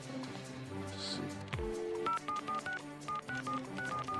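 telephone keypad dialing tones

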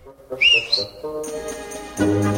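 person whistling

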